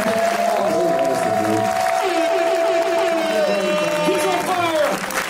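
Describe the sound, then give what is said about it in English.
An audience applauds and cheers steadily for several seconds for a guest on a live show, a dense wash of clapping with crowd noise and a long, sustained high whoop riding over it. “Clap it up one more time for the great Edison.”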